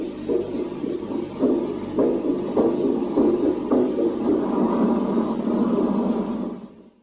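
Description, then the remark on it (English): A muffled, rhythmic heartbeat thumps steadily through a dense wash of hissing static in a telemetry signal recorded on a tape from November 1962, pulsing about once every half second before fading out at the end. “This one starts normal, heartbeat telemetry. Then it starts speeding up. A high-pitched tone bleeds in.”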